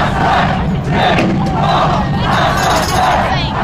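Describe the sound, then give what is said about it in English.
A loud crowd shouts in rhythmic, chant-like surges, about five bursts in under four seconds, over a constant roar of voices with faint dull banging mixed in: people banging on the doors at the corner of Saint-Pierre and Saint-Antoine. “At the corner of Saint-Pierre and Saint-Antoine, no, the other entrance, people are banging on the doors.”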